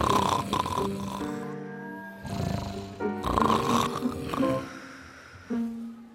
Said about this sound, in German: Oh, du schnarchst. Was? Du hast mich geweckt. Du schnarchst wie ein Schnarchhahn.